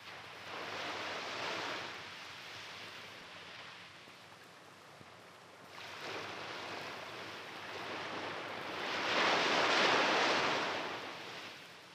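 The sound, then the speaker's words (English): Gentle little waves washing softly onto the sand of a beach in slow, swelling surges, each wave building and fading in a steady rhythm, with no voices present. “The only answer to his calling was the soft sound of the little waves on the sand.”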